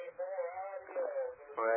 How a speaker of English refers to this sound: What's your scanner on? That's the radio.